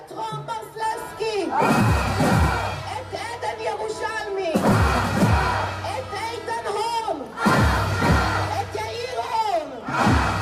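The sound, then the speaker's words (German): A large protest crowd in Israel chants a short slogan in unison, answering a demonstrator calling out names of Israeli hostages held by Hamas and demanding their immediate release; the loud rhythmic phrase rises and repeats about three times, with many voices shouting together. “Und die Menge antwortet: Aschaf, sofort freilassen.”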